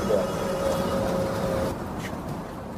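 A paraplegic wheelchair user boards a bus: a steady mechanical whine from the lift or ramp runs over engine rumble, then cuts off, leaving quieter idling bus noise.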